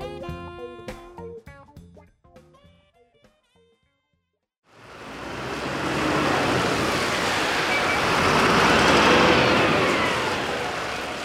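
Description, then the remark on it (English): A few seconds of melodic tones give way to a short pause, then a steady, loud engine rumble with road noise fills the rest, riding inside an early morning bus leaving the Jerusalem bus station bound for Hebron. “I jump on an early morning bus leaving the Jerusalem bus station bound for Hebron.”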